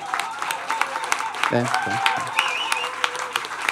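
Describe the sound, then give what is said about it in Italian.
A crowd breaks into sustained applause, dense clapping throughout, with a brief voice and some cheering cutting through midway. “Possiamo fare di meglio. Facciamo un applauso.”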